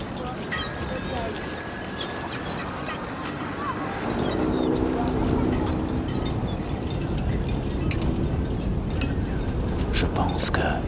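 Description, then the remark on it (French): A boat carrying a group of children returns to a pontoon from an outing on a rough sea in strong, squally wind, with a steady roar of gusts and splashing, a low motor hum growing louder partway through, and faint voices in the background. “Un groupe d'enfants revient d'une balade en bateau par une mer plutôt agitée, comme vous pouvez l'entendre.”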